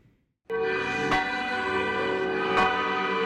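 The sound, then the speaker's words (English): Church bells ring across Lebanon, at the Maronite Patriarchate summer residence in Diman, as thousands of faithful gather for the celebration declaring Patriarch Elias Hoyek blessed. The bells burst into loud, resonant ringing after a brief quiet moment, their tones sustaining and overlapping, with fresh strikes about every second and a half. No one speaks. “Church bells rang across Lebanon as thousands of faithful gathered at the Maronite Patriarchate summer residence in Diman for a historic celebration.”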